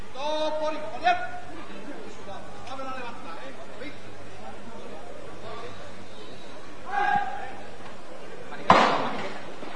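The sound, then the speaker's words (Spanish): A crowd murmurs steadily at the parish of los Descalzos, then a capataz's hammer strikes the procession float once: a single sharp, loud wooden knock near the end, standing out above the chatter. “Suena el martillo en la parroquia de los descalzos.”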